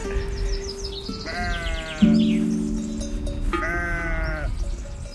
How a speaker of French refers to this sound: Là, il y a une maman qui a perdu son agneau. Là. Elle appelle, elle cherche. Ah. Celle qui appelle. Ah, c'est pour ça qu'elle belle. Ouais. Il y a plusieurs agneaux qui répondent. Mais c'est pas le sien.